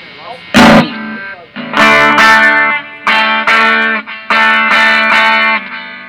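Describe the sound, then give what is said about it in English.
An amplified guitar strums a series of loud, sustained chords drenched in heavy reverb, each one ringing and smearing into the next with a washy, echoing tail. “I just gotta turn off this reverb thing because it's really messing me up here.”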